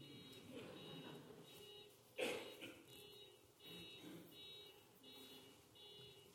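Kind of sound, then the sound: vehicle, car alarm going off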